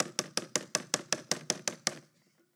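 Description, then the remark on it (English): A quick, even run of about eleven sharp knocks on the door of a grandmother's little townhouse, fairly loud, lasting under two seconds before stopping into near silence. No one speaks. “And I'd come up to her door and I'd knock on the door.”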